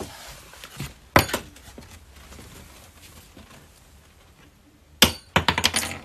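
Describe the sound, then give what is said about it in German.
A key falls onto a hard surface as a book is taken from a shelf, with a sharp metallic clink around one second in, followed later by a cluster of jingling clinks as it bounces and settles, fairly loud. “Ist ein Schlüssel runtergefallen.”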